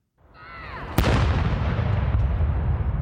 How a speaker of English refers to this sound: World War I-era cannons were fired to salute her Sapphire Jubilee. That's 65 years on the throne.